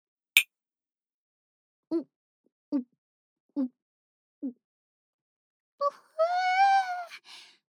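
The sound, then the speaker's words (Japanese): One sharp glassy clink rings out near the start as glasses of alcohol are raised in a toast at an end-of-day thank-you party, then four soft gulping swallows of the drink follow at an even pace before a drawn-out, satisfied vocal sigh. “皆さん、お酒は持ちましたか？いくぞー、乾杯。”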